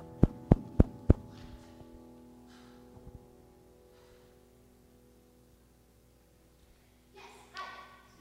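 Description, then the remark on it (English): Four sharp, evenly spaced knocks rap on the door of a house in quick succession at the start, followed by a long stretch of quiet low hum and a faint rustle near the end. “And soon there was a knock once again at her door.”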